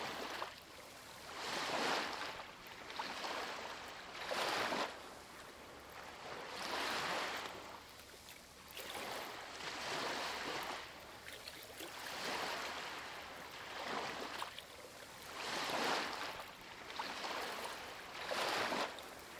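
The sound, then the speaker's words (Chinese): Ocean waves wash onto sand in a steady rhythm, each broad hissing surge swelling and then draining back, repeating about every two to three seconds with no voices. “观察海浪浸润每一粒沙，向后退去，最终离开。”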